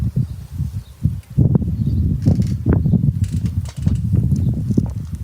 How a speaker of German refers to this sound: Hört den Wind im Hintergrund, hört das Rauschen.